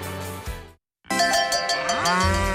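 A dairy cow moos twice, loud: a shorter low call, a brief pause, then a longer drawn-out moo that bends in pitch toward the end. No one speaks.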